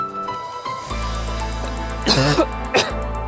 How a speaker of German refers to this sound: Entschuldigung, da haben Sie mich gerade husten hören.